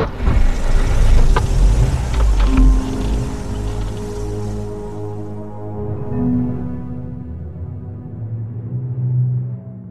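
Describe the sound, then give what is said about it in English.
A hover car engine rumbles loudly as the vehicle drives into a garage bay, the rushing noise easing into a low, steady hum as it slows down. No voices. “They're entering the garage bay.”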